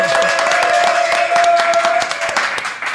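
An audience applauds with dense, steady clapping that fills the whole clip, many hands striking irregularly at a loud, even level, with a faint sustained tone running underneath.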